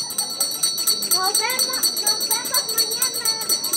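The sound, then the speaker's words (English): A small handbell on an ice cream vendor's cart jingles in quick, steady repeated shakes outside the town's elementary school in Tlanalapa, Hidalgo, while children's voices chatter and call as kids scurry out the main gate, a lively busy street scene with the ringing running throughout. “An ice cream vendor rings the bell on a small cart outside the town's elementary school as kids scurry out the main gate.”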